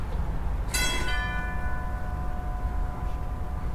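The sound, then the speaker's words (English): A house doorbell at the front door rings out once with a bright, clear chime that lingers and slowly fades over a few seconds, set against a steady low background rumble. “Does have a good doorbell.”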